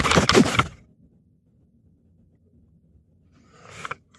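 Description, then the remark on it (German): A hotel room door slams shut with a loud burst that quickly dies away, followed by a faint low rumble and a softer rustling knock near the end. “Die Tür knallte hinter ihr ins Schloss.”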